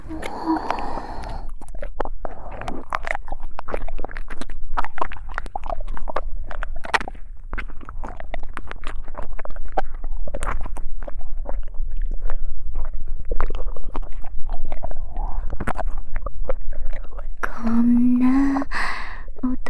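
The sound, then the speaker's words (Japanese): Wet ear-licking sounds run almost nonstop: dense smacking, slurping clicks and soft breaths at a steady, moderate level, with a short low voiced hum near the end. “私は、こっちのお耳、舐めちゃうよ。”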